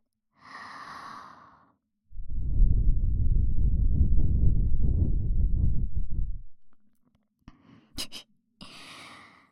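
A long, steady, cool breath is blown toward the listener for about four seconds, soft and airy, framed by quieter breathy inhales before and after. No one speaks.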